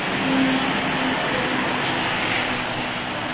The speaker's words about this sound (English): An abundance of trucks today, huh? That's the way it goes, isn't it?